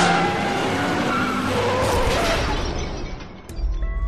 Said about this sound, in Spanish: vieron cómo un turismo colisionaba con el coche de Llenes y de rebote golpeaba brutalmente a Canito